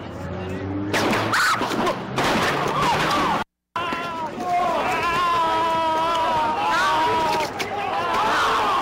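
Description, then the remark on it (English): A quick burst of several sharp gunshots cracks out over a noisy background around midnight on a Thursday night, followed after a brief cut by agitated voices talking loudly. “You're about to hear gunshots go off.”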